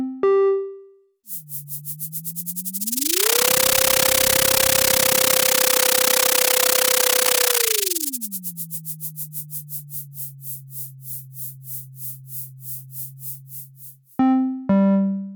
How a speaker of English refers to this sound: Now let's listen to data collected by the echo sounder that demonstrates a day in the life of zooplankton as they move up and down in the ocean.